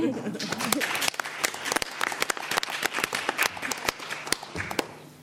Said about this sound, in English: We could close this by clapping our hands, right?